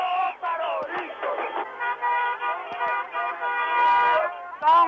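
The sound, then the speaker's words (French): Many car horns blare together in a long, overlapping din, sustained for several seconds amid shouting crowd voices in the streets of Tehran, Iran, where hundreds of thousands celebrated the Shah's departure and honked for four hours; thin, muffled quality like an old broadcast recording. “On a klaxonné pendant 4 heures dans toutes les rues de la ville.”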